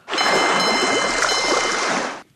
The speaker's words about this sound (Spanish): Es el carro del gas cuando llega al barrio a cambiar los cilindros.